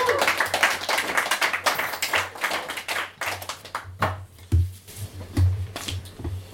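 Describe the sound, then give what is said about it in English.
An audience applauds, a dense burst of many hands clapping that gradually thins into scattered individual claps, with a steady low hum underneath. “That's worth a round of applause on its own.”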